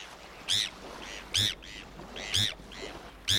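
bonaparte's gull calls

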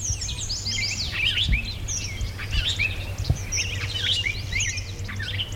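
robin song

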